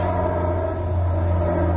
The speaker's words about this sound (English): Waiting for the lorry to pass because I can't hear.